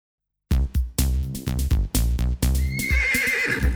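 A horse neighs loudly, its shrill whinny wavering over several seconds while quick, rhythmic clip-clopping hoofbeats sound alongside. No one speaks.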